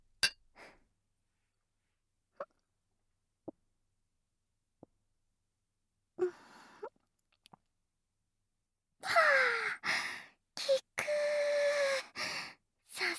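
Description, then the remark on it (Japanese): A few light, isolated glass clinks ring out a second or so apart as glasses of a carbonated drink are touched in a toast, followed by a burst of louder hissing, rustling noise. No one speaks. “では乾杯しましょう。”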